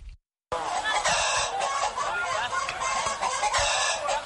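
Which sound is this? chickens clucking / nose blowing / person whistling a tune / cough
chickens clucking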